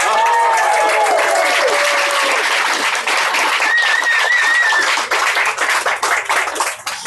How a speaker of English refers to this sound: But clap anyway, okay? Just clap.